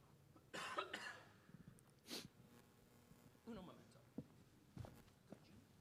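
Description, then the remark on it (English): A person coughs repeatedly, a harsh fit of about five bursts spaced unevenly over several seconds, with quieter throaty rasps between them, brought on by air conditioning with the thermostat set very low. “The thermostat has been set very low, and what air conditioning does to me is it starts me coughing, and then I can't stop.”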